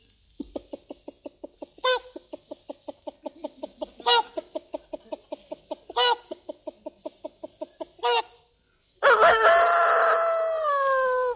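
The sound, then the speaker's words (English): A performer doing farmyard imitations imitates a chicken: a long run of quick, rhythmic clucks broken by sharper squawks every couple of seconds, ending in a loud, drawn-out rooster-style crow. “Chicken.”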